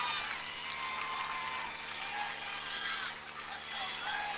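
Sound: baseball crowd cheering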